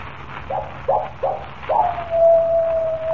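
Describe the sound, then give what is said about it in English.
A coyote gives four short rising yips, then breaks into one long, steady howl that holds to the end, heard alone over a low background hum. “When the coyote howls three times, I die.”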